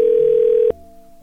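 A steady, loud telephone dial tone as someone places a call to a number from a homeowners association directory, holding for about two-thirds of a second, then cutting off abruptly, leaving a fainter lingering hum on the line.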